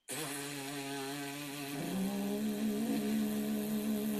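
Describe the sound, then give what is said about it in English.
A sustained lip buzz of the kind a French horn player makes with the lips, a raspy pitched drone rich in harmonics that steps up to a higher note partway through and holds steadily with no talking. “French horn is just something that really amplifies and resonates the buzzing that you're doing with your lips.”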